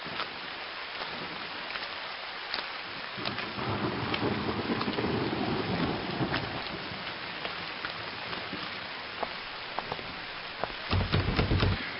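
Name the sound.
rain falling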